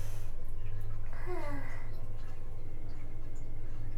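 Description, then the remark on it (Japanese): Hot bathwater from an overfilled bathtub gurgling down a drain: a steady low rumble throughout, with a brief run of warbling, bubbly glugs rising and falling partway through. “流れていくお湯がおごごごごと言っている。”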